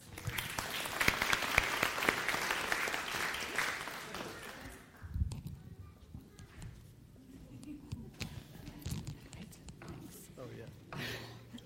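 A crowd claps together for about four seconds, dense and fairly loud, then the applause fades into quieter background noise with scattered thumps and shuffling; the clapping is for people receiving excellent attendance certificates.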